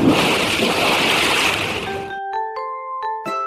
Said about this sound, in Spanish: que cantó desde Australia especialmente para Clásicos Desatados mientras se lavaba las manos con agua y jabón